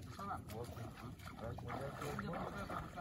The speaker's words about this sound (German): Am nächsten Morgen fahren wir mit dem Boot auf die Nachbarinsel Kirimba, ein abgelegener Ort ohne Strom und Telefonnetz.